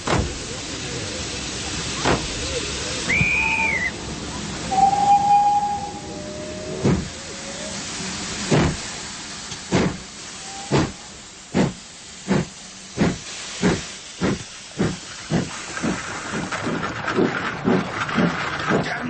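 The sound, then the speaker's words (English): A steam locomotive of the 6:30 train to London hisses steadily at a station, with a couple of brief whistle tones early on, then sharp rhythmic chuffs start and speed up as the engine gets moving. “They're trying for the 6:30 to London.”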